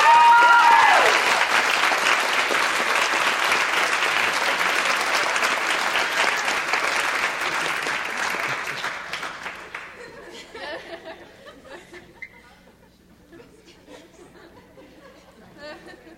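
Loud, sustained applause from an audience, a dense wash of clapping that holds steady for several seconds, then fades out around ten seconds, leaving scattered claps and faint murmuring chatter.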